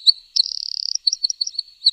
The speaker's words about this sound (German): Laut schimpft vielleicht der kleine Zaunkönig über die vorbeikommenden Radwanderer. So piepst er.